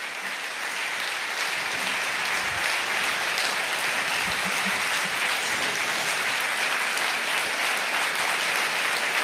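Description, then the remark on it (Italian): Sustained audience applause for a professor, a dense steady wash of many hands clapping at an even loudness for the whole stretch, with no voices standing out. “Se lo prenda tutto l'applauso, professore.”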